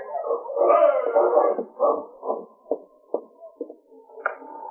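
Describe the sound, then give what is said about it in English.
Sergeant Preston's sled dog team, stopping at a cabin in the Yukon Territory in winter, howls together in a loud, overlapping chorus, then breaks into a series of sharp, separate barks and yips, with no one speaking. “he heard the sound of Sergeant Preston's dog team stopping at the cabin.”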